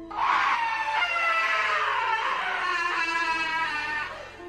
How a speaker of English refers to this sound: As we were running, the scream was heard again, this time a lot louder, indicating that whatever this was following us.